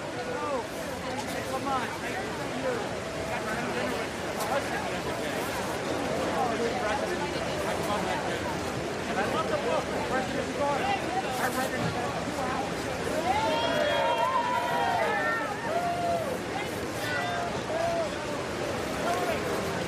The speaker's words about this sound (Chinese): 可以听到现场有这个民众了在鼓掌欢迎拜登总统的到来。